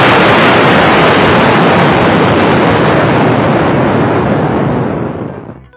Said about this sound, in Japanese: まあこういう感じの大変派手な爆発音か何かを拾ってきますね。